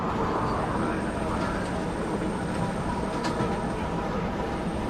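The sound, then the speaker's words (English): A city metro train in motion with a passenger riding it, heard as a steady, loud rumble with rattling and a few brief high squeals, continuous throughout without pause. “Entering a metro train platform, Martin spots Libby, who is standing near the edge. Martin rides the train, staring through the windows between his and another car at Libby.”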